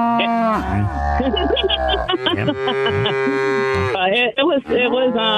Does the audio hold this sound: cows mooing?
yes